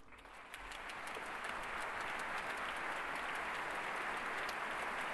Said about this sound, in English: And those applause now for our maestro, conductor Leonard Slatkin. Any motions for the orchestra to rise and receive the applause here at Hill Auditorium in Ann Arbor, Michigan.